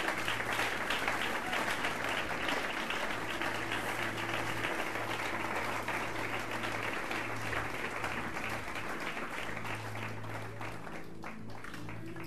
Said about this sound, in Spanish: Dale aplauso al Señor porque Dios es bueno.